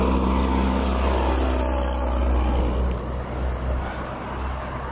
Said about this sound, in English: truck!